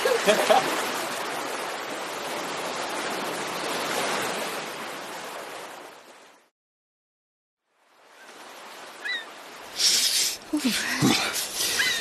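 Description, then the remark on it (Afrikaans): Steady rushing surf fills the first half, then a brief silence, followed by softer wash broken by a few sharp splashes as people go swimming in cold, salty sea water, with faint voices. “Ons gaan saam swem.”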